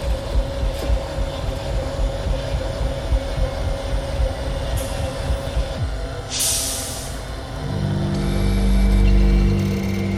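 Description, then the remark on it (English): A flying Data Courier drone rumbles with a dense, low mechanical roar, a brief hissing burst midway, then a steady droning hum with layered tones that swells louder near the end. “Wait, that's a Data Courier drone.”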